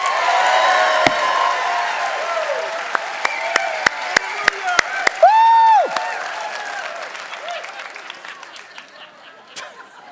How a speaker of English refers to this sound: I'm going to say it again, and then you guys clap. Ready? We'll edit it, and we'll make you guys look great. Ready? 3, 2, 1. We're getting hate mail.